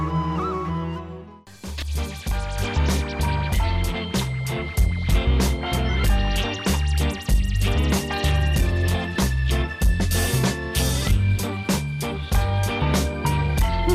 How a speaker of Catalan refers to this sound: Bé, una sintonia avui diferent.